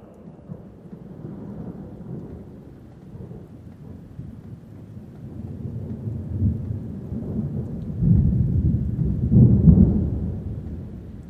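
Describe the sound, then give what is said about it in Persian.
A steady wash of rain underlies a deep, rolling rumble of thunder that swells toward the end, growing louder and heavier as the storm builds. No voices are present. “هر وقت بارون میاد یاد شما میفتم.”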